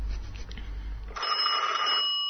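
A telephone rings with a single sustained, bright electronic trill that begins partway through, following a stretch of low rumbling background noise. The ring is fairly loud, with no voices.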